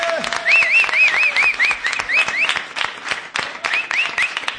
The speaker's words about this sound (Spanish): Estamos a punto ya de comenzar nuestra fiesta más querida y esto es el Kiosco de San Francisco. ¡Aplauso fuerte! ¡Bravo!